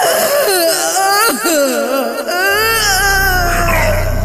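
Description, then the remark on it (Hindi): Surpanakha, from the Ramayana, wails and sobs loudly with her face hidden on reaching her brothers in Dandakaranya. Her voice rises and falls in long, quavering cries with brief catches of breath between them, while a low steady hum enters partway through. “वो रोती कलपती अपने भाइयों के पास दंडकारण्य पहुंची और मुंह छिपाकर चीत्कार करने लगी।”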